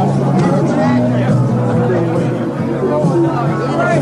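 party crowd chatter

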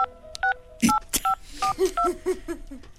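telephone touch-tone dialing

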